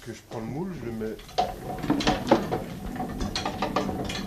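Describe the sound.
A voice speaks briefly, then a hand-cranked artisan soap cutting machine clatters and clunks with a string of irregular, moderately loud metallic knocks and rattles. A large block of pea-green soap on greaseproof paper is guided through its wire cutters, lengthways and then horizontally.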